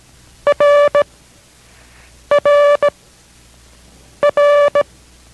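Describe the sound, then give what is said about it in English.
Morse code letter R (as in Roger) sent three times in a code lesson from station K6RAU in Merced: a steady mid-pitched buzzy tone in a short-long-short pattern, each group separated by a pause of quiet, with no voices. “This is R as in Roger.”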